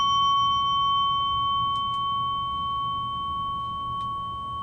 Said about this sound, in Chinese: 当你听到钟声嘅时候，就可以让自己慢慢暂时停落嚟。